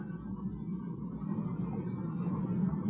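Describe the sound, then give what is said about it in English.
A steady, unbroken roar of a flood of water rushing out where the mountain has burst open, with a deep low rumble and a faint hiss on top, holding constant for the whole stretch with no voices. “Water. The mountain's busted open down there.”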